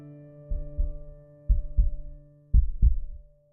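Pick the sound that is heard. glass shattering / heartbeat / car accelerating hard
heartbeat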